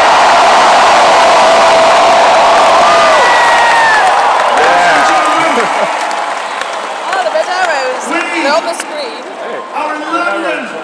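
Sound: crowd cheering and applause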